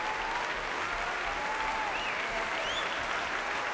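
Sustained, steady applause from a large concert audience as violinist Zimmermann takes a bow beside conductor Daniele Gatti and the Mahler Youth Orchestra after Berg's violin concerto, a dense wash of clapping that stays loud and even throughout, with a few faint whistles rising above it.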